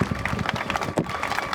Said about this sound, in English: Again, a round of applause for everyone.